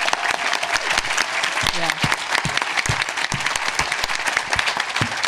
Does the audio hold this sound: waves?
no